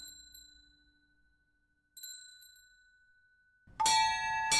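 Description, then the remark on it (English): Church bells from a ring of eight, dating from 1700, strike with long, shimmering decays: a clear tone at the start, another a couple of seconds later, then a much louder, clangorous burst of several bells near the end. “A ring of eight.”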